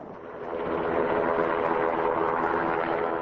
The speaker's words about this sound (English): Meanwhile, a ground crew would attach a 150-foot-long nylon strap hanging down from the aircraft to notches cut in one of the felled trees. The helicopter would then go up.